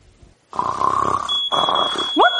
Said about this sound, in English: What? The fire alarm's going off! Oh, my God!